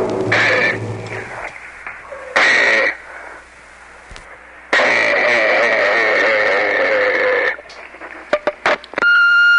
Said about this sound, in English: Dog and a squeaking tone.